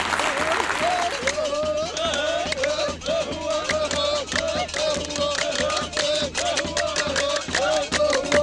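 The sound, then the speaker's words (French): Loud, sustained applause from a king and his whole assembled royal court, dense clapping continuing steadily throughout, with voices murmuring and calling out underneath. “Aussitôt, le roi applaudit très fort, et toute la cour réunie fit de même.”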